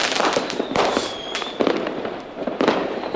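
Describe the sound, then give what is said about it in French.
Fireworks crackle and boom in a rapid, irregular series of sharp bursts, with a thin whistling streak rising between blasts; loud, no voices. “Votre Saint-Jean se passe peut-être en regardant vers le ciel et les feux d'artifice.”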